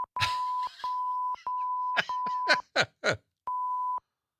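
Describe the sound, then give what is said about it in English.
A series of loud, steady censor bleeps, added as a sound effect, some long and some short, chops up Chris Rock's speech, with brief bursts of his voice heard between the tones. “All right, we added all those beeps just for effect.”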